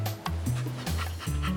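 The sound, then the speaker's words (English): A big dog, Clifford, going for a swim, gives a loud bark with short breathy panting sounds around it, the woofs sounding voiced by a person imitating a dog. “Woof!”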